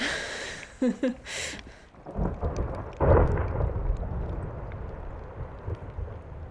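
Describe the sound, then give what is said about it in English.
Ice from the glacier next to a station calving into the ocean: a deep, thunderous rumble with sharp cracking bursts early on, swelling into a heavy roar around the middle, then a long rumbling wash that slowly settles. “So the ice from the glacier next to the station constantly falling off into the ocean, making these huge thunderous sounds.”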